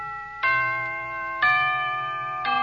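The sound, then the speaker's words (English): A clock chime marking the quarter hour rings out clearly with three resonant bell notes struck about a second apart, each tone ringing on and overlapping the next, with no voices. “Now, how about the second characteristic chime?”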